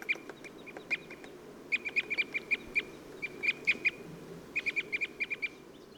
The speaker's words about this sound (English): Wow, that was a flock of red crossbills that just flew over, and they're really the prime attraction up here. What wonderful birds. Brick red birds with these oversized crossover beaks that they use to pry open cones.